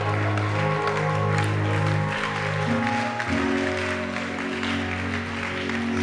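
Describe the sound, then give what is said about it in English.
A crowd including grandmothers claps steadily for about six seconds, a dense, continuous patter of hands over sustained low musical tones, with no voices standing out. “Grandmothers, clap from you.”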